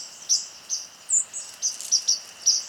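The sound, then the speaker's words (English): A white-throated sparrow in a park gives a string of short, sharp, high call notes, about eight in under three seconds at an uneven pace, fairly clear against a quiet background with no talking. “And my ears are telling me, oh, the white-throated sparrows are back, just from hearing their call notes.”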